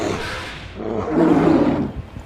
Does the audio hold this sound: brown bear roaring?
yes